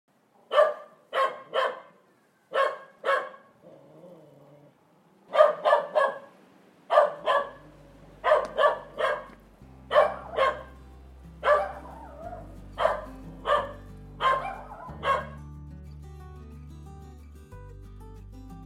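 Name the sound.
dog barking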